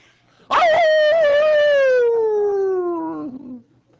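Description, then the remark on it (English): A person lets out a single loud, drawn-out howl in imitation of a wolf, starting high and sliding steadily lower for about three seconds before cutting off. “And about midnight, he's howling like a wolf.”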